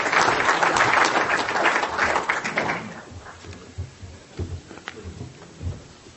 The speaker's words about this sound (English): Could we have another round of applause for all of our speakers?